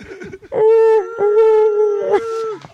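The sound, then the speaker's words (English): A human voice imitates whale song with long, loud, sliding moans held for about two seconds, wavering in pitch, with no spoken words. “There's just whale sounds coming out.”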